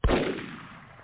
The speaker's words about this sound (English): Yeah, you get a gunshot. Yeah. I'll take the gunshot. I love it.